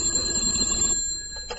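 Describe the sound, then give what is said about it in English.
A telephone bell rings at home in the evening, in one continuous bright metallic trill, holding steady for over a second before it starts to die away, with no voices. “And the phone rang.”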